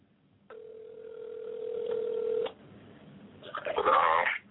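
A phone line sounds a steady electronic ring tone that holds for about two seconds, then cuts off, followed shortly by a brief burst of muffled noise as the call connects, a call placed live on Legal Dope Radio.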